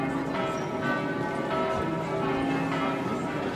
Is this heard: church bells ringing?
yes